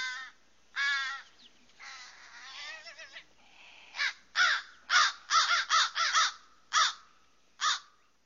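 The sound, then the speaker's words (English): A crow caws repeatedly, starting with a couple of drawn-out harsh calls, then a quicker run of short, raspy caws with brief gaps. The calls are clear, with no voices. “So a crow yep. by any other name sounds would, the same.”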